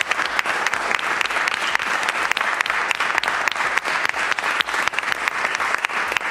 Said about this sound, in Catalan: Un aplaudiment per ells.